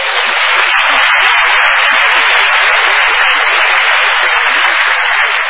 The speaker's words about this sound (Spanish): Bueno, gracias a las dos. Un aplauso para ti.